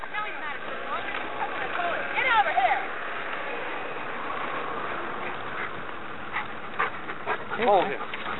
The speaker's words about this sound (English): What kind of dog is he? He's a yellow lab. Oh, geez. He's one of those high strung, huh?